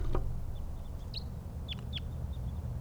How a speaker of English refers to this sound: More wild birds, more type 2s around.